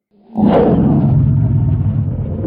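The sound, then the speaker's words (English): A huge, deep roar bursts in after a brief rumbling lead-in, then holds loud and sustained, a growling, rumbling bellow from the dragon Winth as she launches herself skyward, with no one talking. “With a roar, Winth launches herself skyward, beating the air into submission with relentless strokes of her wings until she's free of the bowl, free of Benden, free of the tiny, insignificant bronzes, and everything else but the wind and the clouds.”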